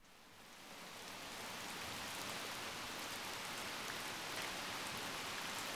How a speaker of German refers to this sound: Prag, der Bahnhof. Regnerischer Spätabend. Der letzte Zug ins Ausland fährt gerade ab.